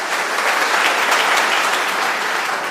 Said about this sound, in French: Et je vous demande de l'applaudir, s'il vous plaît.